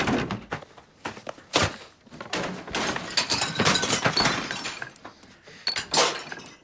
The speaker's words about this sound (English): Out in the garden, Peter is smashing all the props from the play. Barry, coming downstairs, hears the noise and peers out of a window. Peter is tearing down the curtains and overturning the furniture.